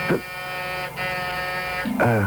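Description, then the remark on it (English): A door buzzer sounds loud in two long, harsh electric bursts separated by a brief gap, followed by a voice starting to speak right as the buzzing stops. “Someone's at the door”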